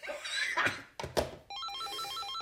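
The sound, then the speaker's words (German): A telephone rings with a warbling electronic tone, repeating steadily in quick alternating pulses after a few dull knocks and rustling noises. “Hören Sie, das ist Telefonterror.”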